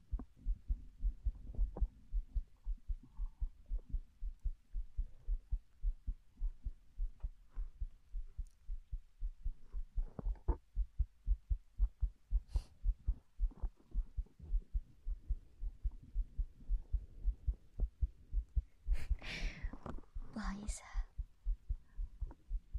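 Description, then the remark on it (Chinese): A muffled heartbeat thumps in a steady, fairly quick rhythm throughout, with a brief breathy rustle near the end. “她说，心跳声会让人安心下来。”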